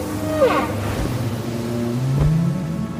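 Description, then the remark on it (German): A whale surfacing from the sea gives low, drawn-out moans and a brief upward whistle over a steady wash of ocean surf, the calls sliding in pitch. “Du siehst, wie aus dem Meer der Wal auftaucht, den ihr schon beim letzten Mal beobachtet habt.”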